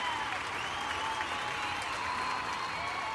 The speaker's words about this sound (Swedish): Applåd, applåd, gumman.